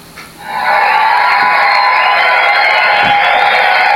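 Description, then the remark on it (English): A crowd bursts into loud, sustained cheering and applause, rising sharply within the first half second and holding steady with shrill whoops and shouts layered over the clapping. “We have our own applause.”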